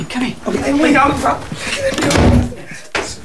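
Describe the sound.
A door is unlocked and pulled open, its clunks and rattles partly buried under people talking, with a sharper knock of the latch near the end.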